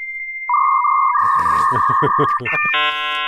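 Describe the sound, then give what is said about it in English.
A dial-up modem makes a phone call to an internet provider to connect to the internet: a steady tone and a dial tone, then a run of rhythmic hissing, crackling bursts, ending in a loud, layered high-pitched screech of handshake tones. “basically, it's making a phone call to your internet provider, which would take you to the place you wanted to go, the CompuServes and America Online's of the world.”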